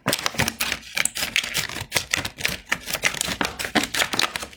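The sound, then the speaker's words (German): Scissors snip off the top of a milk carton in a quick, steady run of crisp cuts, each a sharp click-like crunch, with no talking. “Erstmal schneidet ihr oben ein Stückchen was ab.”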